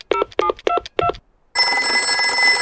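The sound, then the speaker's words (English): Madame Gazelle dials Dr. Brown Bear's phone number: four short, evenly spaced electronic keypad beeps, then a steady, hissing line tone that continues to the end. No one speaks. “Not to worry, I'll ring Dr.”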